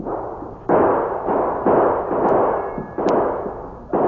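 A volley of gunfire from two men shooting across the street: about six loud, sharp shots at an uneven pace, each followed by a rumbling, ringing tail that carries into the next. Nobody speaks.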